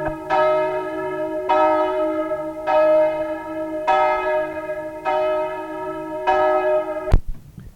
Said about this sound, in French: Avec l'élan qu'il lui fit donner ce jour-là, la cloche des trépassés sonne encore. Parfois, on l'entend à la pointe du croisic et sur la côte sauvage.